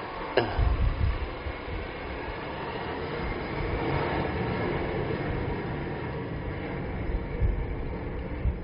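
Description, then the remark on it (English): A deep, sustained roar fills the whole stretch, steady and heavy as a very big, heavy-load plane passes overhead by Subang, with rumbling low end and no voices. “Wow, this one is a very big plane. Long time I haven't heard such a heavy load plane passing by Subang.”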